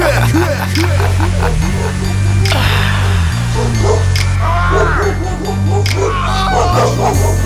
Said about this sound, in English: I'll release the hounds on man in the night and listen to the barks and screams.